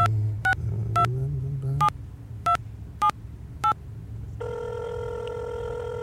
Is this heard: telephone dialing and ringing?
yes